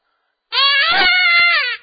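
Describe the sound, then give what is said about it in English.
A dying-rabbit predator call, a varmint call used as a lure for coyotes: one loud, high, raspy squeal held for just over a second, wavering slightly in pitch before cutting off abruptly. No voices accompany it. “That's a dying rabbit.”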